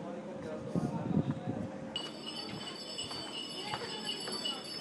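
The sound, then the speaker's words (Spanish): Donkeys pass by, their little bells ringing in a steady, shimmering jingle that starts partway through, with soft hoof clops and muffled voices in the background. “Esos son los burros. Las campanillas de los burros. Están pasando por aquí todos ahora mismo.”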